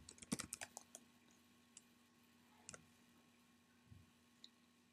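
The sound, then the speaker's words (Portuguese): A quick burst of typing on a computer keyboard, entering encryption text for a button in a program, then a few scattered keystrokes spaced out over several seconds, fairly quiet with a steady low hum underneath. “Vou colocar o texto de criptografia.”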